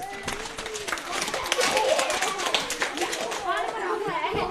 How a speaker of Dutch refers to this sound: Ah ja, nee, geweldig. Applausje!